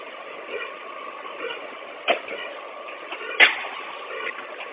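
A bus engine idles with a steady, even rumble at a constant level while the bus doors fail to open, broken by two brief mechanical clunks a little over a second apart. No one speaks.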